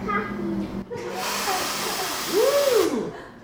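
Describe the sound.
A two-year-old boy pushes the button on an espresso machine at a coffee space in a hostel; its steam wand lets out a steady, loud hiss for a couple of seconds, ending in a squealing tone that rises and falls in pitch. A voice is briefly heard beforehand.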